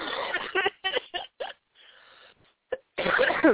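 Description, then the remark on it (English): Someone who had the flu coughs in a quick series of harsh, breathy bursts, then a short quiet gap, a brief catch, and another loud raspy cough at the end, with no talking. “And excuse me for coughing.”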